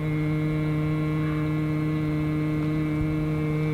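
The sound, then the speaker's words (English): A man hums a single steady low tone without any tune to gnats at the water's edge of a river near the Boise foothills in the late afternoon, holding the same pitch for the whole stretch, continuous with no talking. “The late afternoon sun gives the marsh grass a soft focus, and a blizzard of gnats rises up near the water's edge where a man is humming.”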